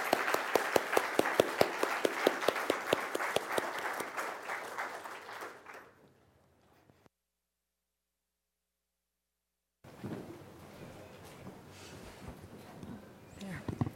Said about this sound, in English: But while they come up, applause isn't something you do in church, but I think someone who's been on the field for 38 years deserves a round of applause, don't you? This is applause for God, right?